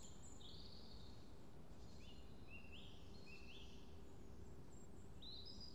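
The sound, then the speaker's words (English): Faint woodland birdsong in a churchyard flanked on three sides by woodland, on the Harewood estate: several short, high chirps and warbling phrases repeat throughout, over a steady low outdoor hum with no one speaking. “Around us there's just a cacophony of bird song as we're flanked on three sides of the churchyard by woodland, and the other side looks back across the impressive Harewood estate beyond.”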